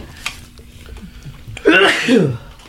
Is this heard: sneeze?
yes